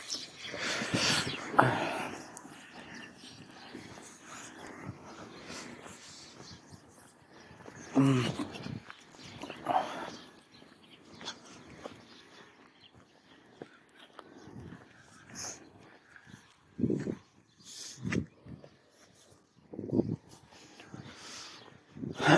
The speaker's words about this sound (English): Hold on, there's someone walking their dog. Hold on.